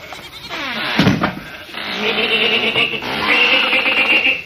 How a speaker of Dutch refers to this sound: Kijk, ik zal even de deur open doen. Moet jij even een blik naar binnen werpen? Er staan mijn schapen.